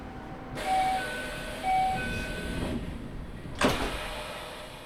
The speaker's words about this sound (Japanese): 扉が閉まります。ご注意ください。